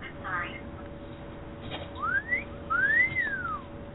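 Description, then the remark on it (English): A cat-call wolf whistle sound effect being played: a short upward swoop followed by a longer rising-then-falling glide, bright and fairly loud, over a steady low background hum. “Okay, we're going to use the cat call.”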